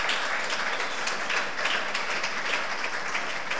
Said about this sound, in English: If you want to clap, you can actually clap.